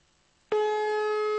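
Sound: telephone call tone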